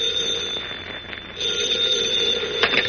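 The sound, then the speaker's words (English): A telephone rings in Perry White's hotel room in the state capitol in The Adventures of Superman, with a steady, shrill electric bell tone that carries on unbroken for about three seconds, with no voices, and a brief rattling burst near the end. “In his hotel room in the state capitol, Editor Perry White, mayor of Metropolis, has his hat and coat on and is about to leave the room when the phone rings.”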